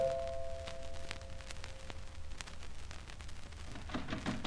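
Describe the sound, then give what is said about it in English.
The door chimes of a flat ring with a couple of steady, sustained tones that hold for a few seconds before fading, heard over a low background hum with no talking. “Then came the chimes at my door.”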